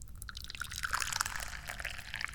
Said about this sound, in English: Yummy, delicious tea. It's so good, we need to pour some more of it.